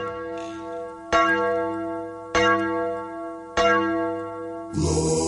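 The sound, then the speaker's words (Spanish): Three evenly spaced bell strikes open a song, each leaving a sustained, layered tone that hums between hits, before a burst of fuller music bursts in at the end. “Y la gente todo le encantan las campanas esas al empezar.”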